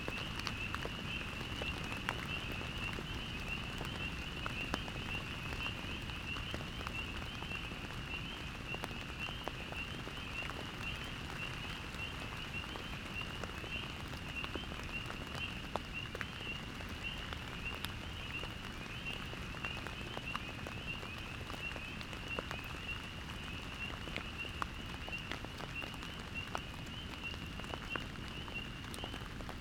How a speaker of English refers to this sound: But for now, I'm entirely content to just listen to the sound of the rain.